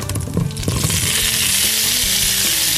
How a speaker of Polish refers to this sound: Z racji, że smażymy na maśle, pomidorki powinny się pryczyć na wolnym ogniu, aż zaczną pękać i puszczać soki.